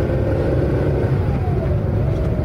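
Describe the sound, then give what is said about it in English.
A car engine rumbles steadily, its pitch shifting as the vehicle accelerates, with a continuous low drone and no voices. “Oh, dahan-dahan lang! Huwag masyadong mabilis!”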